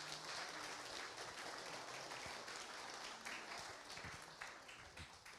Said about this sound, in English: Y'all have never been applauded more for nothing than in that moment, right?